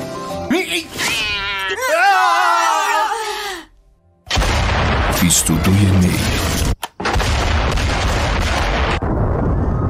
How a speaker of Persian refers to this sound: چی میخوای پیشی کوچولو؟ بیا.